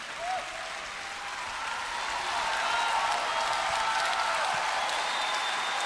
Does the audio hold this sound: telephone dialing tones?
no